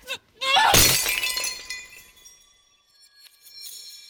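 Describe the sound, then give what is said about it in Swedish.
A beautiful old glass vase, thrown with full force, smashes against a wall in one loud, sharp crash, followed by bright ringing shards that fade out and fill the floor, with a few faint tinkles of settling glass afterward. “Mamma slängde den med full kraft rakt in i väggen. Golvet fylldes av skärvor.”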